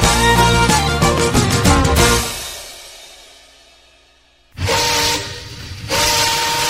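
vehicle, steam train whistle

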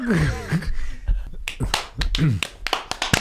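human body sound, hand clapping

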